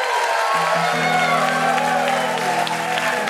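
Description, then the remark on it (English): A crowd claps steadily and densely for a few seconds, with cheering and a sustained hooting voice rising over the applause. “Hog anus rarely gets applause.”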